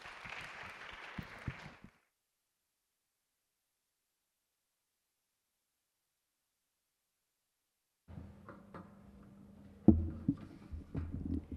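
A short burst of audience applause, dense and fairly close, fades out after about two seconds into silence; later, low room noise and a few soft knocks and shuffles follow.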